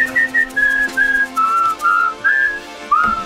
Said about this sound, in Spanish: pero ya no silbamos. No, pero lo podemos hacer.